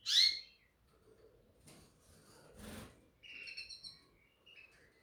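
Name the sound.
birds chirping and singing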